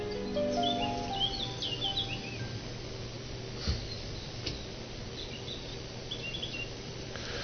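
Birds chirp and twitter outdoors in a busy chorus of short, high calls over a steady low rumble of background noise.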